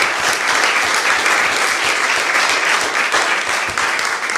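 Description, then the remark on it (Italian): Steady applause at a town council meeting in Italy, in tribute to an absent council president, a dense crackle of many hands clapping at an even loudness for the whole stretch, with no voices over it. “Non la vedo più tra i presenti, ma le mando un grandissimo abbraccio e un applauso.”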